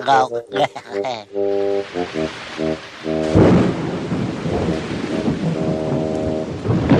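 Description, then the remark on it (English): Stormy downpour: after a few seconds of voices, heavy rain rushes in with a loud thundery roar and keeps hissing steadily, while voices carry on underneath the rain. “The old barn is a good place to stay until the rain stops.”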